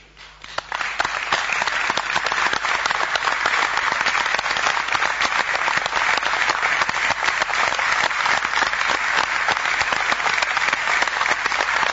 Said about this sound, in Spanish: Aplausos para Fausto o para el Diablo, para quién no, se lo lleva. Para Fausto.